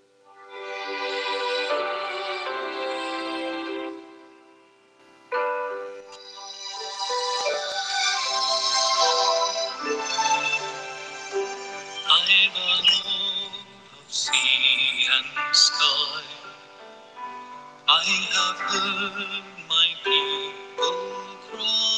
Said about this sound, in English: we'll play some music